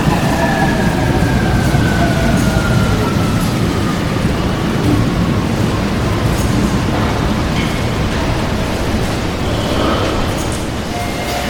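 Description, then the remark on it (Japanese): A train bound for Yumeshima via Awaza and Bentencho rolls into platform 2 of a station with a loud, steady rumble and a thin whining tone that slowly drops in pitch, continuous throughout. “2番線に到着の電車は阿波座弁天町方面夢島行きです。”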